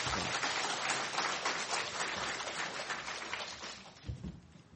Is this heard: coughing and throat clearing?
no